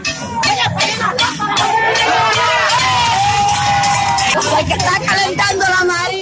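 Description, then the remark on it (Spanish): Residents of Campechuela, Granma province, shout at a Friday-night cacerolazo protest demanding restoration of electricity, in a neighbourhood near La Marina: many voices raised in a continuous, dense roar with some individual yells standing out, steady for the whole stretch. “Gritan los campechueleros en un video”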